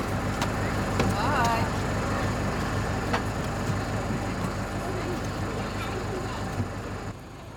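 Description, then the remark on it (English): Kindergarten children from Davis Street in Melbourne board a bus over the steady low rumble of its idling engine, their scattered voices and a few sharp knocks and footsteps heard, until the noise drops away at the end. “On the bus, just watch where your feet go. Make sure your feet are in the right spot.”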